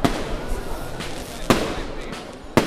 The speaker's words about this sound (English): These are not sounds of the city under siege. It's the fireworks from the opening gala for this year's festival.